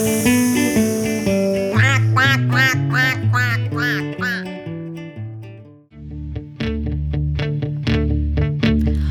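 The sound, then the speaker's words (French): Loud, rhythmic duck quacks over bright instrumental music, coming in quick repeated runs with a brief pause partway through before the quacking picks up again. “Un petit canard au bord de l'eau, il est si beau qu'il est tombé dans l'eau.”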